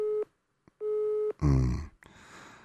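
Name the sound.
telephone busy signal tone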